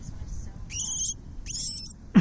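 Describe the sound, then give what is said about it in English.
A baby bird, heard in a video, gives two thin, high-pitched calls in quick succession over a low background rumble, followed by a brief thump at the end. “So we found this little baby bird.”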